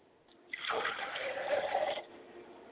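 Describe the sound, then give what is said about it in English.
Water pours steadily into a glass for about a second and a half as an offering for a mother's spirit, a bright splashing stream that starts abruptly and stops cleanly, with no talking. “I pour a glass of water for my mother's spirit, and I say, Mother, please quench your thirst.”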